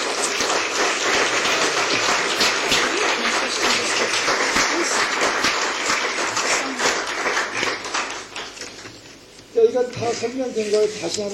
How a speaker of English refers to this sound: Let's give a round of applause for true parents so they can be healthy.